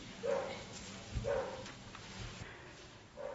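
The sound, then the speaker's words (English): Dogs bark outside, a few short, muffled barks spaced about a second apart over a low background hum. “Never knew I was going to talk about that tonight until the dogs started complaining”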